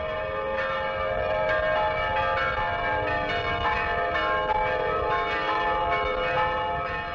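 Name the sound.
monastery church bells ringing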